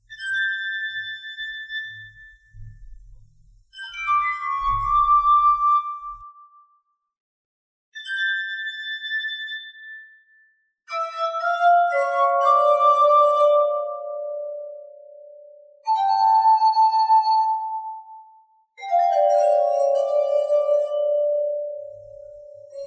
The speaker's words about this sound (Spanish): Es una copa. Son copas. Exactamente, son copas de cristal.